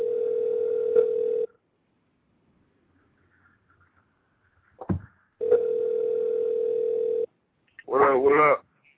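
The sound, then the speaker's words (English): A steady telephone dial tone hums, cuts off, and after a sharp click returns for a couple of seconds before a brief voice answers at the end, as a call is placed during the radio show Smooth Diamond. “Get my man on the phone.”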